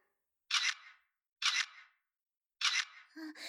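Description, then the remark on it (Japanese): Three crisp smartphone camera shutter sounds, taken as evidence in a women's bath, fire one after another, each a bright, loud snap with a short hiss, spaced about a second apart, before a voice briefly starts talking. “証拠でスマホで喋っちゃおう。”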